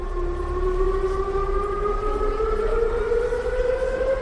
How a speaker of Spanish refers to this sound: Es el sonido de las sirenas de aviso a la población para recrear en este simulacro un incidente del colapso del techo de un tanque de almacenamiento de crudo.